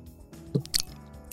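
Someone chews food with no talking: a soft, low squishy bite followed a moment later by a sharper, crisp crunch, then quiet mouth noises fading out.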